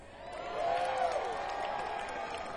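An audience applauds in a steady, dense wash of clapping, with a rising whoop and scattered cheers mixed in, holding fairly even for a couple of seconds.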